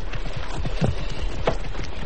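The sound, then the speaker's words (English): A stallion's hooves clip-clop in a steady, fairly quick rhythm of sharp knocks, moderately loud, with no voices over them. “Your stallion is starting to act up.”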